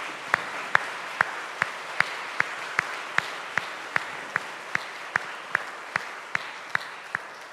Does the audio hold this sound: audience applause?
yes